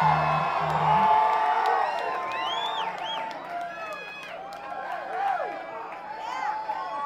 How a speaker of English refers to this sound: shouting out there tonight, everybody.